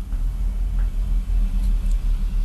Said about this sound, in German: Ein dicker LKW fährt vorbei in unserem Studio, das eigentlich unser Schlafzimmer ist.